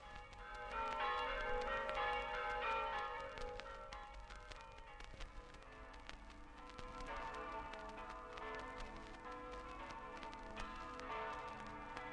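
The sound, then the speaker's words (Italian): Church bells across Friuli, Italy, peal together for Easter in a dense, continuous clangor, their overlapping tones ringing out steadily for the whole stretch with a faint hiss of background noise beneath. “Tutte le campane del Friuli, dalla Carnia al mare, annunziano la Pasqua e con la resurrezione i cuori salutano la primavera che ritorna.”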